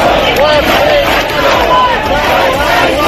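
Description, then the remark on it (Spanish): A large protest crowd at Plaza de Castilla chants "Juez Peinado, estamos a tu lado" together in a loud, continuous roar of massed voices, with rising and falling shouted tones running through the whole stretch. “Gritos de juez peinado, estamos a tu lado en Plaza de Castilla y presencia de portavoces de Vox en algunas de estas concentraciones”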